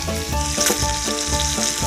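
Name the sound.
food sizzling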